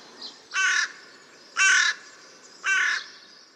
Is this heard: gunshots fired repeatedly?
no